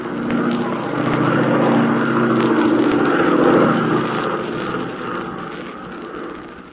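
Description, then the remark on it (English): A loud, steady engine of an airplane in flight, piloted by Tula, drones without a break, its deep rumbling hum swelling slightly in the middle and easing off a little toward the end. “Here we are in an airplane piloted by Tula.”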